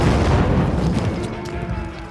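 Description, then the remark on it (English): A grenade with a lit fuse, tossed into a mass of men at the base of a bastion, explodes: a loud, deep blast with a heavy low rumble and broad crackling noise that rolls on for about two seconds, easing off slightly toward the end. “He grabbed a grenade, lit the fuse, and tossed it down into the mass of men milling around the base of the bastion.”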